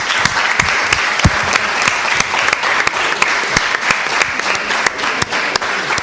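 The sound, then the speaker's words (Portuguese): An audience applauds everyone at the end of a session, steady dense overlapping claps at an even, sustained level, with a few sharper individual claps standing out throughout. “Muito bem, uma salva de palmas a todos.”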